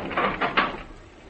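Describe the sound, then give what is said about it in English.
A door being shut: a brief scraping swing followed by a soft knock as it settles, over in under a second with no voices. “Close the door, Stoddard.”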